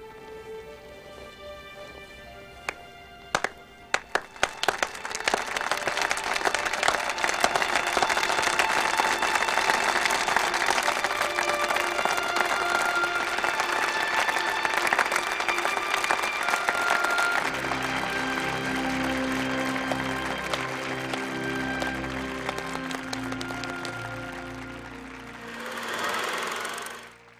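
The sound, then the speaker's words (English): A few isolated, slow claps, greeting a speech at peace talks, swell quickly into loud, sustained applause from a large crowd, which carries on with music rising underneath before fading out near the end. “His speech is met with probably the first intergalactic slow clap.”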